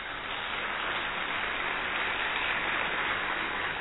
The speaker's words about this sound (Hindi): अब आपने ताली तो बजा दी